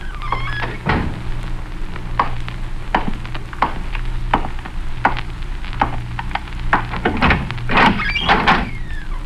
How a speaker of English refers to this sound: You can slip out the other door after he comes in here. Close the door quietly.